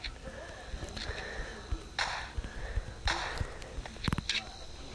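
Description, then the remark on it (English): Muffled audio from a television showing Garfield, on commercials at the moment, plays at a steady, moderate level, a mix of indistinct voices and bright tonal bursts with occasional sharp clicks, running continuously underneath without any clear foreground talk. “And if you can hear that, I'm watching Garfield in the background, but it is on commercials right now, so don't let it bother you, and if it does, let me know, and I, for future Let's Plays, I'll just turn off the TV altogether, or mute it”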